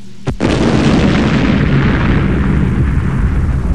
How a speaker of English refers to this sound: Well, that to me sounded like an explosion, a violent explosion. That's our sound effect. I hope it's a sound effect. It's not actually a violent explosion. You're dropping the bomb? Is that what's going on?